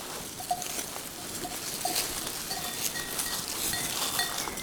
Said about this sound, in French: Curieuse et attirée par ma présence, un élevage de chèvres mohaires.